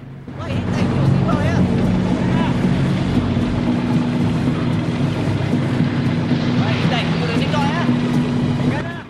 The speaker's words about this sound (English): Another boat approaches. Three stern-looking men stand on the deck staring at them. Let's say hello. The two boats pull up alongside each other.